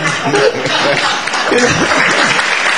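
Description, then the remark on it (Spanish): A crowd applauds the candy seller steadily, a dense, even wash of many hands clapping at full loudness, with a few faint chuckles and voices mixed into the noise. “Ya la gente le aplaude al caramelero.”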